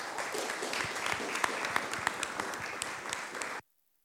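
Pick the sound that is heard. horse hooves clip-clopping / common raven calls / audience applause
audience applause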